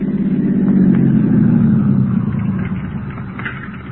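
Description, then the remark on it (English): A car drives downtown to the bank with a steady low engine rumble and road hum, swelling slightly early on and then gradually easing off over a few seconds, with no voices. “See, the bank already? I hardly noticed we were moving.”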